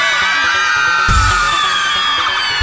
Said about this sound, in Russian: Теперь, ребята, теперь, девчонки, узнаем с вами, кто самый звонкий, кто громче давит на перепонки. Девчонки или мальчишки, мальчишки или девчонки. А теперь, девчонки, громко-громко все вместе кричим.